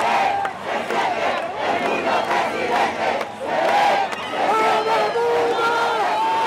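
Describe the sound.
A large opposition rally crowd in Venezuela chants "President Edmundo" in unison, many voices shouting together loudly, the chant rising and falling in repeated phrases with brief dips between them.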